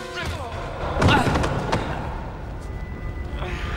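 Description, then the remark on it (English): A heavy thud of a kick landing in the stomach during a fight, one loud blow followed by a fainter knock, over a steady rumbling background. “Then kicks him in the stomach.”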